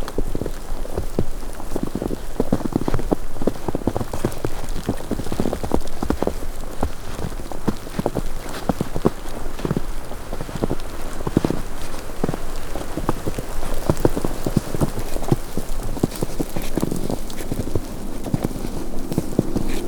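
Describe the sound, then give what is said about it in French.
Steady rain falls through tree branches, a dense continuous patter broken by irregular heavier drips and splats, even in loudness throughout, with no voices. “branches mêlées à la pluie.”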